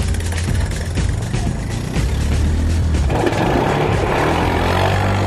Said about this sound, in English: Two members of each team, the scavengers, go off on quad bikes to bring back goodies from the scrap heap.